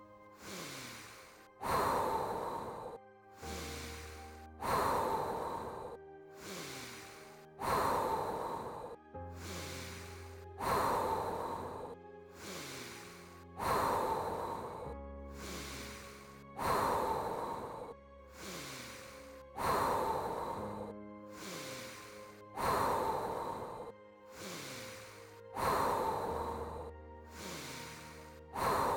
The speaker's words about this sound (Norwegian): Siste runde. 30 kraftfulle inn- og utpust.